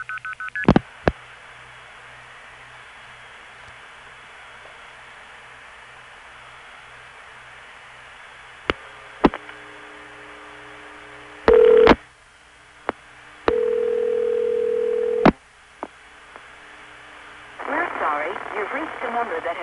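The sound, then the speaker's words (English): Telephone line hiss broken by sharp mechanical switching clicks, then bursts of steady special information tones from the Norfolk centralized intercept reached via Forest Hills, followed by the start of a recorded voice announcing a disconnected number. “here's Norfolk Centralized Intercept via Forest Hills, Norfolk Foray, 8048, to a step with the SS Tones”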